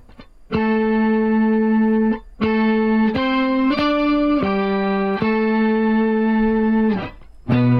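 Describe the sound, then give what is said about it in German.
Sustained electric guitar notes run through multiple pitch-shifter effects that add fifth, seventh and octave harmonies. Single tones are played one after another in several held phrases with brief gaps, loud. “Das ist auf jeden Fall ohne Ende verschiedene Pitch-Shifter, ne? Quinte, Septime, Oktave.”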